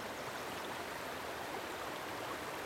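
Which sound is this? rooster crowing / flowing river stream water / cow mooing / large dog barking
flowing river stream water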